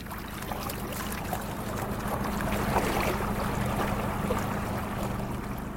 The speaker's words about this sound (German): Entlang der Ufer des beschaulichen Städtchens Luang Prabang steuert Fischer Pön sein kleines Boot über den schlammig braun verfärbten Mekong.